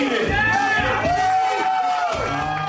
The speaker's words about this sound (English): For 12 minutes, the dozen or so contestants line a long table and gorge while onlookers cheer.